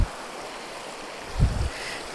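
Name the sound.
flowing river water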